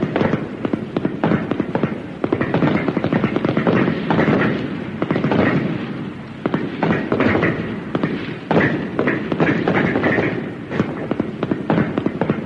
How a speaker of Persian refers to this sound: آفرین، تمرین تیراندازی دیگه کافیه.